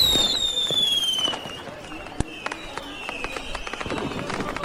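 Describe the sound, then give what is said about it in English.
Fireworks go off overhead at a city's Founder's Day festival with partying in the streets: high whistling streaks glide downward, then sharp cracks and a scatter of smaller pops follow, with a busy murmur of voices in the background. “The city of Gear Hollow is the site of a spectacular Founder's Day festival, with fireworks overhead, partying in the streets”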